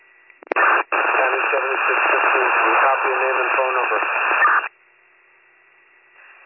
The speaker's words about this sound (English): Central, you are nothing but static.